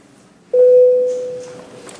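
signal or alarm, parliamentary voting bell signal

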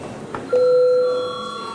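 signal or alarm, parliament bell rung

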